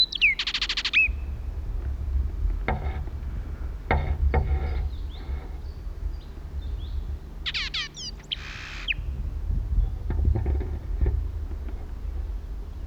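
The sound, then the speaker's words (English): Short, high blackbird contact calls come in brief bursts at the start and again midway, with sharp rising and falling chirps over a steady low rumble and a few faint clicks; the calling bird is some 120 feet to the right. “At last contact call was some 120 feet to my right.”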